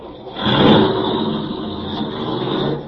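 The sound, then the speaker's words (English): A car engine rises in loudness as the vehicle pulls off, then keeps a steady rumble with no voices. “Start driving.”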